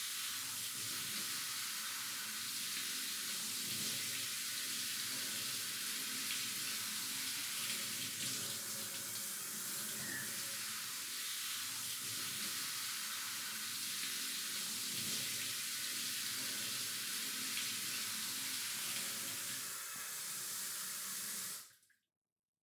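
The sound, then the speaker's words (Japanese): Steady running water splashes and streams for about twenty seconds as water is poured over hair during washing, then stops abruptly. No one speaks. “かけるよ。どう？気持ち？”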